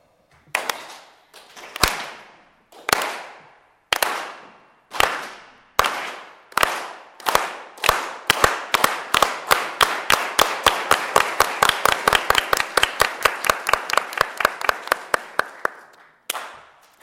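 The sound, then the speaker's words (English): A group performs the Unity Clap of the 1960s United Farm Workers movement, clapping in unison to the rhythm of the heart: slow, widely spaced claps steadily quicken into a fast, dense run, then stop abruptly with one last clap. No one speaks. “We are going to start clapping, and we're going to clap to the rhythm of our hearts. So first, slow, and then we're going to speed it up, and then it's going to end very rapid.”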